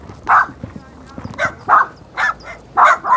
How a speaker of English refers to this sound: The area is full of yapping dogs and cats sneaking around.